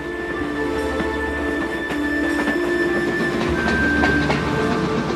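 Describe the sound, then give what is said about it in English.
A train rumbles steadily along, its railway cars clattering over the rails in a loose, repeating clickety-clack, with a thin metallic whine riding above the constant roar. No voices. “Thousands and thousands of the ghetto's Jews are systematically rounded up, taken to a nearby train station, and forced into railway cars.”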